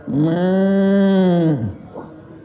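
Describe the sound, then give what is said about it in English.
A single loud, drawn-out cow moo, steady and low for over a second before its pitch sags and it cuts off, followed by a brief quiet tail. “Oh, sacred cow. Just shot a sacred cow.”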